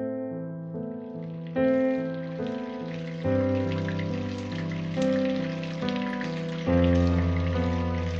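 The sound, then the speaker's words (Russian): Steady rain patters and hisses throughout, blended with soft, sustained musical chords that shift every few seconds. No one speaks. “Когда Поллианна в следующий раз увидела своего незнакомца, шел дождь.”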